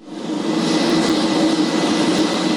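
A loud, steady roar of the engines of two U.S. military C-130J Super Hercules transport aircraft on the runway of Batajnica airfield: a heavy propeller drone with a low humming tone, continuous, with no voices.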